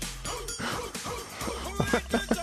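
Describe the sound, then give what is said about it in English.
A pop song chorus plays loudly, with a full backing track under chanted vocals punctuated by rhythmic barking woofs that come in quick bursts toward the end. “Wasn't that the pump-up song for Cozad High School back in the day?”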